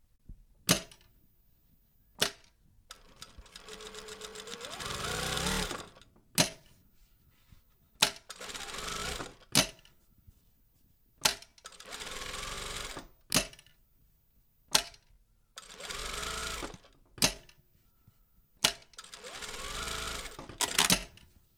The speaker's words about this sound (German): Wir beginnen mit der klassischen Doppelsteppstichnähmaschine. Sie kann vor- und zurücknähen. Klingt absolut unspektakulär, aber wenn man genau darüber nachdenkt, benötigt man für die meisten Nähte halt auch nur eine Nähmaschine, die genau das kann.